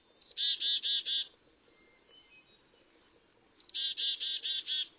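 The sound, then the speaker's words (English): A chickadee gives a mild alarm call in response to an eagle: two short runs of buzzy, rapid dee notes, about four then five, clear against a quiet, faintly noisy background. “So for the chickadee, the eagle prompts something much more like a polite yawn.”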